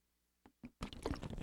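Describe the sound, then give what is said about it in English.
Someone takes a drink of water: two short wet clicks, then about a second of sustained, noisy slurping and swallowing, fairly loud, with no talking. “If I want to be a baritone, I've got to drink water.”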